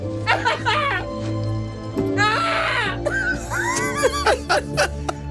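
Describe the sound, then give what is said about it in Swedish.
A voice reenacts its own panicked, strained scream blending into sobbing cries while a film scene plays in the background, rising and falling in shaky bursts over a steady low hum, fairly loud. “Det kommer liksom en panikartad skrik där, slash gråt.”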